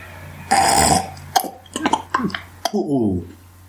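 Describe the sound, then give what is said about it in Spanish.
A voice imitates a language: a harsh, raspy guttural sound made by vibrating the back of the tongue at the velum, like a French R, then five or six sharp tongue clicks interleaved with brief throaty syllables, ending on a low, gliding voiced vowel. “porque lo que utiliza es, para empezar, sonidos guturales, en el que lo que hacemos es vibrar con el dorso de la lengua en una parte velar. Utiliza estos clics y utiliza una especie de vocales bastante complejas.”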